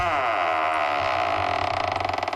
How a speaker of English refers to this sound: Let's open up the vault door, shall we?